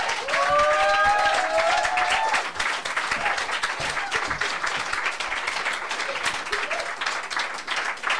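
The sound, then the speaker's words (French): An audience at a live show claps steadily in a dense, sustained wash of applause for a performer's set, with a few high whistles or cheers rising over it early on before the clapping carries on evenly. “On l'applaudit encore, s'il vous plaît.”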